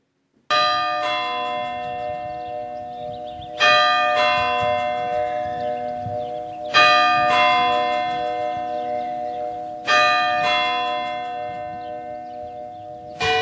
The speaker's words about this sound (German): Es gibt der bürgerliche Glockenschlag. Das ist der, der die Stunde schlägt oder auch die Viertelstunde. Und das ist der.